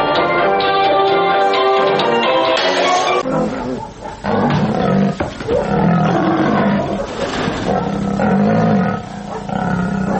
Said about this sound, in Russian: Если вы послушаете, просто послушайте, а не посмотрите работу, допустим, дрессировщиков тигров, львов, вы услышите совершенно определенную звуковую кулису, которая свойственна только этим номерам.